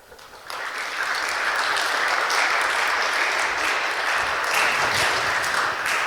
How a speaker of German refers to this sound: Danke für euren großen Applaus.